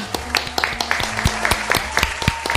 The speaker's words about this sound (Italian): Facciamogli un caloroso applauso. Bravo!